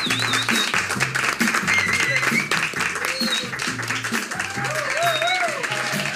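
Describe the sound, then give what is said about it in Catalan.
A crowd applauds steadily with dense, continuous clapping, while scattered cheers and whoops rise above it throughout, loud; the audience of a BTV programme applauding the show's director. “Un fort aplaudiment per ell.”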